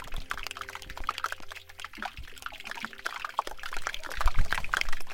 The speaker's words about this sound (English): That is the sound of air bubbling out of a glacier as it melts. Wow, and whereabouts was it recorded? It's in Svalbard, a glacier in Svalbard in northern Norway,